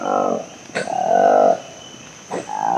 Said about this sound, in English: We call it the roar of the colobus. It's a really distinct sound in the rainforest, and if you're there with colobus, it depends on the morning at 5 a.m., and you can hear it loud above your tent.